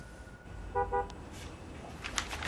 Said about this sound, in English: In her kitchen, Brooklyn gets up on hearing a car horn.